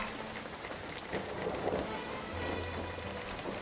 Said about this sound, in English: Twice now, the thunder has been so great that, you know, you just feel it in your bones. You're like, holy cow.